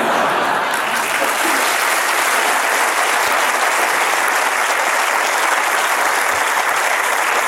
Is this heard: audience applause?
yes